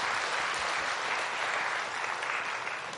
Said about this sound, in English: Can you give the Lord a big hand clap for them? 我们把荣耀归给神。